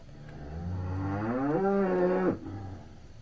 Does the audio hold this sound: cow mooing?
yes